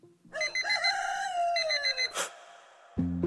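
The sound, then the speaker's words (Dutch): An alarm clock goes off with a loud, crowing-like tone that wavers and slowly drops in pitch, ending in a sharp burst followed by a brief low buzzing chime. “Maar feit is wel, als ik de wekker maar hard genoeg zet of je een flinke por geef, dan kan ik je vrij eenvoudig weer terugbrengen tot bewustzijn.”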